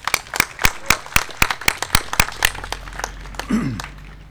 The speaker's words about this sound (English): If you would, let's give the mayor a clap and have a really nice prayer to talk.